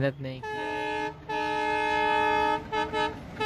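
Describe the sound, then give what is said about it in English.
An afternoon train passes by a village next to a field along the track, sounding its horn in long, loud, sustained blasts, broken by a brief pause and ending in a couple of shorter toots. “The afternoon train trundled by, casting a shadow over the village”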